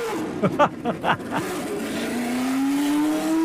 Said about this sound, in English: And that was Mario Andretti's 78-79 black and gold Lotus firing up on the track at Circuit of the Americas. Did you hear that thing spitting and coughing until it came on the cam at, I don't know, what, 8 or 10,000 RPMs? How awesome was that?